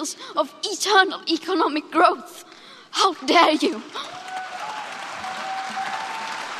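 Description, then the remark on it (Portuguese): An emphatic voice speaks for a few seconds, then an audience of world leaders breaks into dense, steady applause for a student's speech that carries on evenly to the end. “Os líderes mundiais aplaudiram a estudante”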